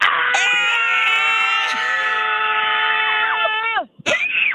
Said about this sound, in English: All right. Here we go. The first annual, or the first weekly, I should say, Scotty K Show Scream Club in 1, 2, 3, go!